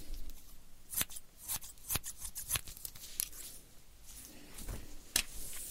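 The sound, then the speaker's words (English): Sharp, new scissors snip through someone's hair during a haircut, roughly eight crisp, irregular cuts with short pauses between them, over a soft background hiss and no talking. “Okay, after I cut her hair, I have pretty sharp scissors, and it's new.”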